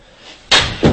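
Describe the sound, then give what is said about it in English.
Two sharp, loud slaps across a man's face land in quick succession, the second about a third of a second after the first, crisp against a faint background hiss, with no talking. “Slapped him like tired.”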